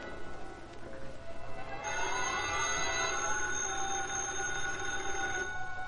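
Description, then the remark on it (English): A telephone bell rings insistently in an apartment, its bright metallic trill repeating in a steady pattern, fairly loud, with no one speaking. “The phone in Britt Reed's apartment rang repeatedly.”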